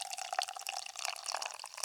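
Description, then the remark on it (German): Beer pours steadily into a glass, a continuous bright splashing and fizzing trickle with no voices, holding at a fairly soft, even level for about two seconds. “So, da pinkelt das Pferd.”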